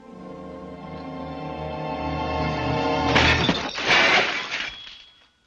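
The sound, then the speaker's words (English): A steady low, droning tone gives way to loud crashes of dishes smashing, with china and glass shattering in two heavy bursts followed by scattered clinking fragments, as Marlon Brando's Stanley Kowalski clears the table in Elia Kazan's 1951 film A Streetcar Named Desire. “Now, that's how I'm going to clear the table.”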